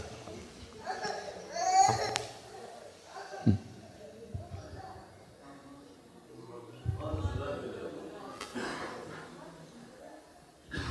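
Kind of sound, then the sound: crowd, child crying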